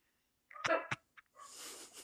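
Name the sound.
dog barking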